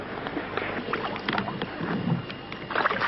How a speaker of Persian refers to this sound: تیم‌های شناسایی معمولاً 4 تا 6 نفر بودند که سوار بر 2 بلم یا قایق می‌شدند. بلم‌ها همگی چوبی و فقط با پارو جابجا می‌شدند.